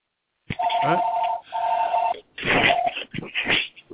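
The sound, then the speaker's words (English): A telephone rings twice, each a steady electronic warble lasting about a second, loud over a murmur of voices. Then the ringing gives way to a burst of noisy chatter. “Okay, we got somebody to get the phone, right?”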